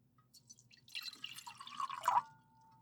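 Water runs and splashes for a couple of seconds, a bubbly, rising pour that swells in the middle and then cuts off, with a faint low hum underneath.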